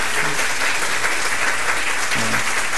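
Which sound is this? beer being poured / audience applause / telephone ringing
audience applause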